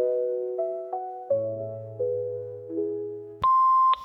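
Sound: voicemail beep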